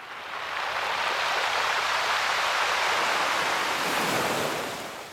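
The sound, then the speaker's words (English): Waves wash in and out over a shingle beach on the south coast of England, rattling the stones up and down the beach in a dense, hissing roar that swells in and fades out again, steady with no voices. “He was on holiday with his wife on the south coast of England, lodging just above a shingle beach, where the waves washing in and out rattle the stones up and down the beach like the sound of applause.”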